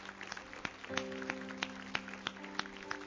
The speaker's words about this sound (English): Everybody say amen today. Give the Lord one more good clap offering. Come on.